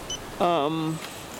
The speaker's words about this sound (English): Just as we approach the street, the wheelchair stalls to a beep.